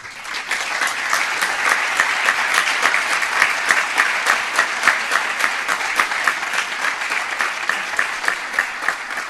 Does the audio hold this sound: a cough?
no